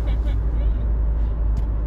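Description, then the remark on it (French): Steady, heavy low-frequency rumble of a car's interior while driving, constant for the whole moment, with faint voices murmuring in the background. “Nous on est bon public dans notre voiture, vous inquiétez pas.”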